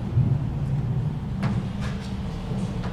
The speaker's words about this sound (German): Gewitter, Starkregen, die Soundeffekte im ersten Container stimmen auf Extremwetterereignisse ein.